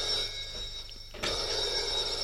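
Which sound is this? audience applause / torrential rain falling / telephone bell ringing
telephone bell ringing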